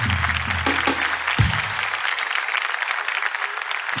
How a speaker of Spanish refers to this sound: Tu aplauso vale por 5.